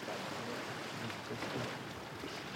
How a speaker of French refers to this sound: La nuit sur l'eau berce nos corps d'adultes comme dans un landau. Le bateau grince